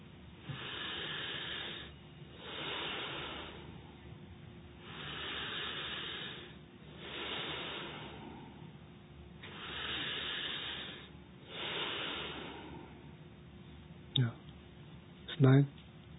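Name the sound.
rhythmic breathing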